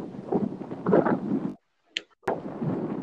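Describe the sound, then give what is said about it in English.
Rough, low rumbling buffets of wind hitting a microphone outdoors on a windy day, loud, cutting out briefly near the middle with a couple of sharp clicks before the blustery noise returns. “Sorry, it's windy where I'm at.”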